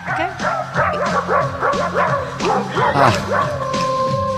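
Small dogs yip and bark in quick succession, their high-pitched barks strung into a rising and falling melody like a song, loud and close with several voices overlapping throughout.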